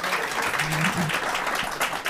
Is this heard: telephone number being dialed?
no